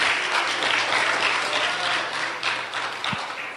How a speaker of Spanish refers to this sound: démele un aplauso al Rey de Reyes y Señor de Señores. Así, con mucha gana, con mucha gana.